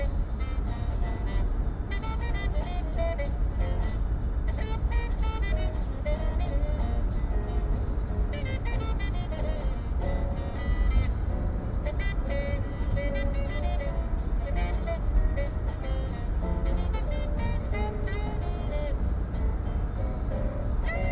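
Steady, loud low rumble of a car interior while driving back from the weekend on 11 May, a continuous road and engine drone with faint higher tones drifting over it throughout.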